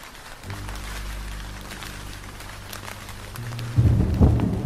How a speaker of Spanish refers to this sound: Cuando se terminó de despedir de él, la tormenta se soltó.